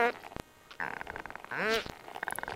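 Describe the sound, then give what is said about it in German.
Harbour porpoise, a toothed whale, biosonar heard as creaky, rapid trains of clicks, like a creaking door, in several bursts separated by short pauses, one with a rising, whistling sweep; the audible sound is a low-frequency by-product of its ultrasonic clicks. “Ein bisschen hört sich der Schweinswal an wie eine knarrende Tür.”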